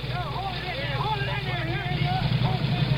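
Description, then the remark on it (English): A race car engine rumbles steadily at a low pitch in the pit lane while the car, its tank bone dry, is being refuelled; a continuous droning hum that grows slightly busier near the end, while a man talks over it throughout. “The problem now is to get the car filled up and get the engine started.”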